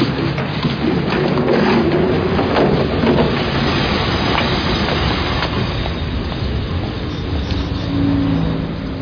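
A train rumbles steadily along the rails, loud, with a dense low roar and faint rhythmic clatter of wheels throughout, no voices heard.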